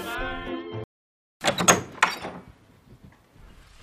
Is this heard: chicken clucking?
no